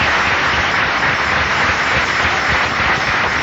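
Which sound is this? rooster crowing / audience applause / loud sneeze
audience applause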